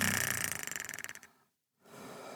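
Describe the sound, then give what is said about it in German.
A single rattling snore from someone in a loft bed in a hotel room in Zauchensee, with a fast, buzzing flutter, fades out after about a second, followed by a brief silence and then a faint hiss. “… schnarcht noch in seinem Hochbett.”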